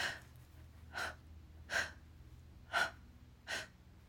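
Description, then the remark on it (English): Heavy breathing: five loud, airy breaths or gasps come in a steady rhythm about once per second, each a short breathy rush over a quiet background, with no talking. “You can already hear in my breathing that you're getting me close to the edge.”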